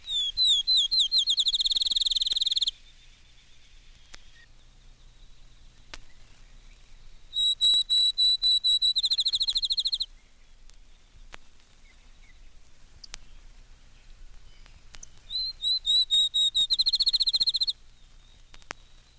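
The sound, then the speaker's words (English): A field sparrow sings three times, each song a series of clear, sweet whistled notes that speed up into a quick trill, like a bouncing ball, with quiet pauses between songs. “Field sparrow, 6 examples.”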